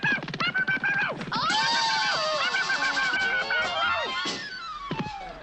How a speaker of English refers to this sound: Oh! What was that scream? But that was her.